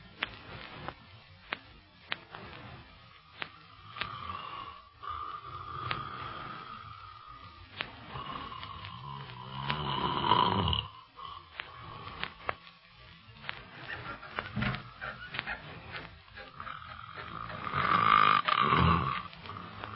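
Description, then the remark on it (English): Loud, rumbling snoring of a man with two big rasping bursts a few seconds apart, a thin whistling tone drifting between them. “The way he snores, you should be glad he's in another room.”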